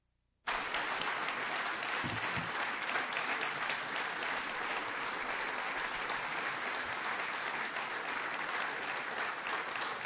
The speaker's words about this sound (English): Excited about this long applause.